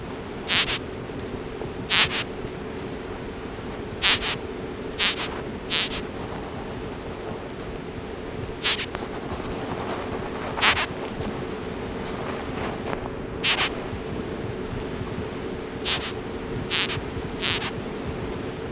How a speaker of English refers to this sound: The screech beetle has a warning call that it makes by rubbing the tip of the body against the wing case